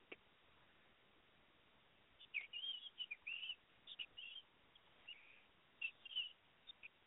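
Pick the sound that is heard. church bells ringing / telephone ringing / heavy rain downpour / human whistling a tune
human whistling a tune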